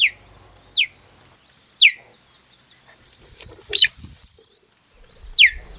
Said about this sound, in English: What? Where's the roar? Where's the big cat noise? What's all the chirping about? Excuse me, Mr. Cheetah? What's chirping, aren't you?